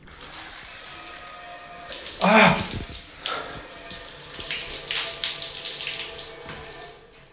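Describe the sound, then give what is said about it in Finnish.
A jingle recorded in a running shower: the shower runs steadily with a dense, hissing rush of water. A louder splashing burst comes early on, and a faint voice may be buried under the spray. “Ja tää on ihan oikeasti tehty jäätävä suihkussa.”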